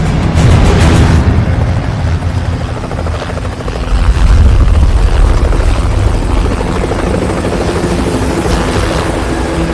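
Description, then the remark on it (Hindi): A helicopter flies, its rotor producing a loud, continuous chopping roar with heavy low-end rumble that swells and stays strong throughout, with no voices. The helicopters have delivered snipers. “जनाब हेलीकॉप्टर्स ने स्नाइपर्स को पहुंचा दिया है।”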